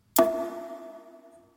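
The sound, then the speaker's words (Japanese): A single bell-cricket-like ring built from clock sounds: a sharp metallic strike followed by a bright, steady tone that slowly fades over about a second and a half, with no talking. “スズムシが、時計のように、リン、リン、リン。”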